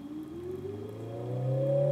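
An electric motor, given an added function as an acoustic sound source, emits a synthetic car-like engine tone, a steady harmonic hum whose pitch rises slowly and grows slightly louder over two seconds, with no talking.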